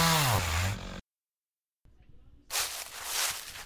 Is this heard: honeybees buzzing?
no